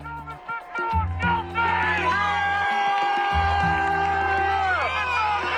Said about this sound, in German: Jubel, Freudenschreie, Tränen der Erleichterung und Sprechchöre mit George Floyds Namen. In Minneapolis haben sich am Dienstagabend hunderte Menschen vor dem Gerichtsgebäude getroffen und buchstäblich den Atem angehalten.